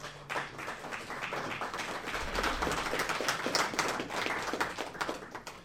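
An audience claps steadily for several seconds, a dense patter of many hands that swells slightly in the middle and stays fairly loud throughout, with no talking over it.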